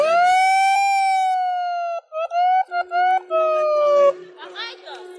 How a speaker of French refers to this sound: ils font klaxonner le Thalys et tout le monde est mort de rire. C'est énorme, c'est énorme.